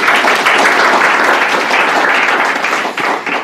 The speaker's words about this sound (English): Round of applause.